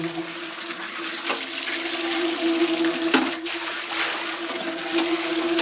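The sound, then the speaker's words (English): Water rushes steadily into a bathtub as a man cleans and rinses it, a broad continuous splashing hiss with a faint hum underneath, fairly loud throughout, with no voices. “He grabs a bath towel from a towel rack, wipes down the shower wall with quick, deliberate circles, then finishes the tub and shuts off the water.”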